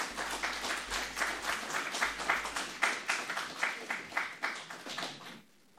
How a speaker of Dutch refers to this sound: En ik denk dat God verdient daar een applaus voor. Dank je wel.